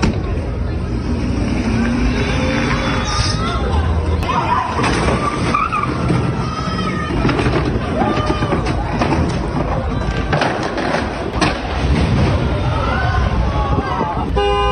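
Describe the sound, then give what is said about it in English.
A stolen tow truck roars and skids as a man tries to drive off, crashing into parked cars with a few sharp bangs, while horns honk and agitated voices shout throughout the loud, chaotic scene. “Here's the moment that he stole the tow truck and tried to drive off while crashing into parked cars.”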